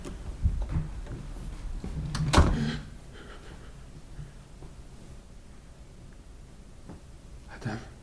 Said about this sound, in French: La porte s'ouvre maintenant.